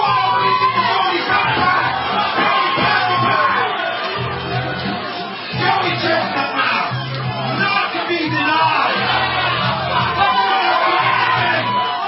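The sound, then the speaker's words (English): A large crowd roars and cheers continuously for about twelve seconds at a chicken wing eating contest at the National Buffalo Wing Festival, with shouts, whoops and yells rising out of a dense wall of noise. “But I wanted you to hear some of the sounds of it. Check it out. This is probably the biggest eating contest ever in the world, other than Nathan's hot dog contest.”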